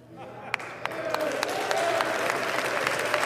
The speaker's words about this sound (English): All right, so you just heard what Matt Gaetz said. You hear that applause at the end of the speech. Those are Republicans, obviously, not Democrats.